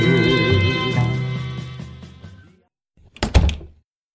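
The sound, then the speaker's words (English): Sung music with instruments plays and then cuts off, and after a short silence a single muffled gunshot thuds, dull and heavy, with a brief rattling tail. “That muffled gunshot implied a suicide.”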